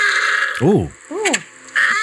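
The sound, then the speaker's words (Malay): A baby seal calls to its mother twice, each a short rising-and-falling bleat with a nasal, almost voice-like tone, set against a steady thin whine in the background. “Tadi bunyi baby seal. Baby seal panggil mak dia pun bunyi.”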